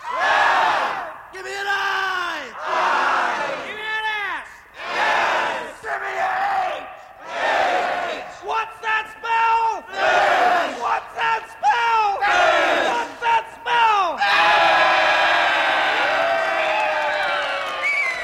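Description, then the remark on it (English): A large crowd bellows a call-and-response spelling cheer, a leader shouting letters such as "Give me an F!" answered by loud unison yells in a steady back-and-forth rhythm, ending in a long swell of cheering. “…, …, and …. Give me an F!”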